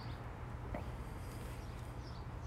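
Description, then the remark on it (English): Faint birds chirp a few times outdoors on a hot, dry June day of about 97 degrees, over a steady low background rumble, with no one speaking. “A lot of birds right now.”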